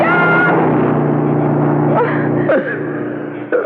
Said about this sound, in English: Oh, wait. I hear a car coming. He'll help us. I'll wave him down.